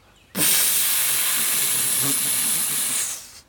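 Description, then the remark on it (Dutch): A strong, steady hiss of blown air starts abruptly and holds for about three seconds before fading out, bright and breathy with no voices, as Poe (Pooh) blows out air to make himself smaller because he is stuck. “Hij begint te blazen.”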